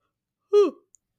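A single short yawn, fairly loud, with a voiced sound that slides downward in pitch and fades quickly into silence.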